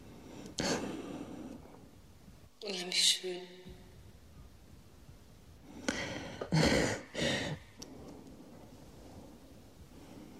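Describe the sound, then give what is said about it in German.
A woman breathes into two microphones in a radio studio in Baden-Baden, several loud, gusty inhales and exhales with muffled rumble, and between the breaths she briefly speaks the two words "unheimlich schön" on command. “Zwei weitere Mikrofone nahmen dabei ihr Atmen auf.”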